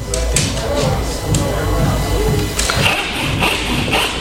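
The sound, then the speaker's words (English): Muffled, thumping bass music carries through from a disco festival next door, a steady low pulse running under people talking. “But while we're sawing away here, you can still hear the irritating thumping coming from the Disco Fest next door.”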